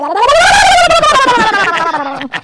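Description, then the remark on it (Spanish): A person imitates a turkey (guajolote) gobble as a party trick: one loud, warbling voiced call lasting about two seconds, its pitch rising then sliding slowly downward with a fluttering wobble before it trails off. “Ah, ¿te puedes que hacer otra de mis gracias, que es del guajolote?”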